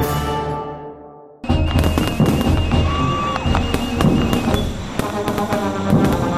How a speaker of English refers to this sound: One gunshot for each of the 13 colonies. What? One gunshot for each colony.